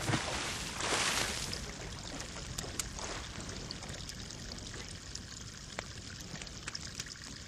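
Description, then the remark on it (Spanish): Water splashes and pours at the start as a half shell with a sleeping dwarf in it is thrown into the water, then settles into a steady trickling and lapping as the small shell boat floats on the surface, with faint drips throughout and no voices. “Un joven que pasaba por allí, al verlo dormido, quiso salvarle de las llamas y lo lanzó al agua con cáscara y todo.”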